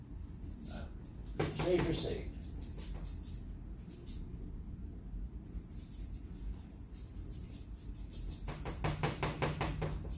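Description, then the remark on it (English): A squeaky wooden easel being shifted: a burst of creaking and squeaking scrapes early on, then quieter knocks and a rapid cluster of clattering, rattling taps toward the end. “I want to thank friends for building me this nice easel. This nice squeaky easel.”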